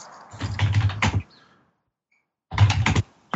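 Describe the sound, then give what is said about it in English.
Rapid computer keyboard typing in two bursts separated by a short pause, the keys clattering densely, slightly muffled as if picked up through a call participant's microphone. “Yeah, we can hear your typing, which is weird.”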